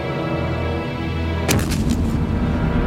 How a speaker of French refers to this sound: Ils ont un canon? Wow! L'obus est tombé sur le vestiaire. Il a tout détruit.